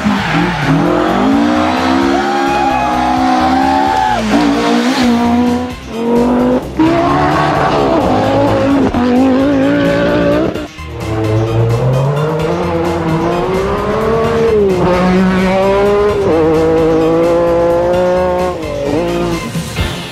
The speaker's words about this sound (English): Car sounds?